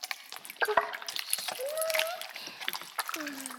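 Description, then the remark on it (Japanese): Wet, crackling squish of plenty of shampoo foam being worked through a person's hair, much more lather than usual, a continuous bubbly fizz with small popping bursts, while a soft voice murmurs intermittently over it. “お兄さんの頭を泡で包んじゃうくらいがいいかも。”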